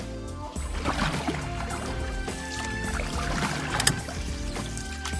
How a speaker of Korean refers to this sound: 중국의 베네치아 동방수성은 대규모 공사를 통해 만들어진 인공 운하예요. 유럽풍 대규모 건축물 사이로 흐르는 운하를 따라서 곤돌라를 타고 있으니까 유럽의 낭만이 마구마구 느껴지시죠?